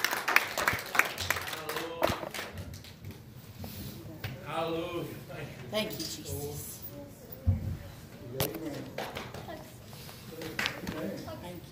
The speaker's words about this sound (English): Give the Lord a hand.